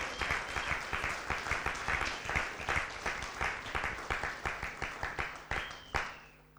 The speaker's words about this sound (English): Why don't you give him a round of applause for the extension?